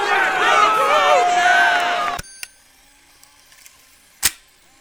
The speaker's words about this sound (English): With this thunderous applause, the once productive policy known affectionately as Clear Skies Tim has violated the sanctity of HeartLife's most sacred tradition